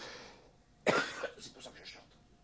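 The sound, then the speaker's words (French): A man, a singer who has taken the microphone away, coughs once sharply, slightly muffled, followed by a few softer trailing coughs or throat-clearing sounds. “J'ai enlevé le micro pour dire ça, parce que je toussais.”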